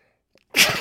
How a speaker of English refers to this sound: Excuse me a second, please. You're about to hear a sneeze.